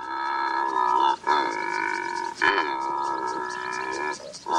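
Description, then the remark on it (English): A secretary bird, a bird of prey, gives long, drawn-out groaning croaks, harsh and buzzy, in about four sustained calls separated by brief pauses. The calls are steady and fairly loud, with no voices present. “Meet the secretary bird, a bird of prey like no other on Earth.”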